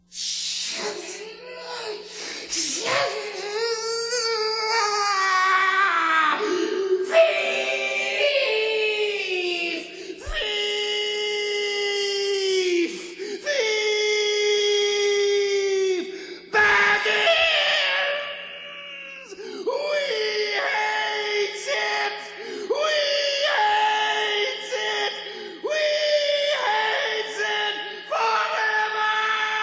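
A creature-like voice shrieks, curses and wails in a tunnel almost nonstop in long, strained, rising and falling cries, broken by hissing and groaning, loud throughout, with short gaps between bursts.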